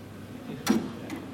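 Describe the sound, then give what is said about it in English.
A clock's striking mechanism, released by lifting a lever that twists a bar connected to the striking motion, gives a sharp mechanical clack as the whole clock turns quickly, followed by a softer tick about half a second later, over a low, steady background hum. “Oh, wow, the whole clock is turning so quickly.”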